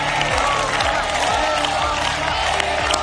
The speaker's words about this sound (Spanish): Gritos de Begoña, Begoña, después de que el presidente del gobierno, Pedro Sánchez, haya ido al mitin del PSOE junto a su mujer, junto a Begoña Gómez.